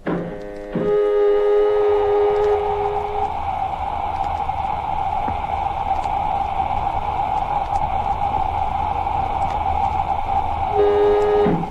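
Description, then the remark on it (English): A spaceship airlock filling with air: a loud, steady rushing hiss layered with a droning, horn-like hum that holds for about twelve seconds with no voices. “Filling airlock.”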